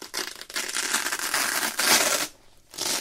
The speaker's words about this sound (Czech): Třeba rád nosím tenisky, které se zapínají na suchý zip. Ne, že by mi vadilo zavazovat si tkaničky, ale suchý zip při používání vydává jeden z nejpůvabnějších zvuků na světě.